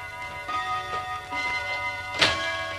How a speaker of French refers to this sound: L'horloge sonne 21h. Tout est calme dans l'appartement.